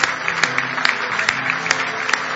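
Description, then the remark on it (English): An audience gives the Lord a hand clap of praise, clapping together in a dense, steady patter of many hands, with sharper unison claps landing at a regular beat over a low sustained hum. “Oh, give the Lord a good hand clap of praise tonight.”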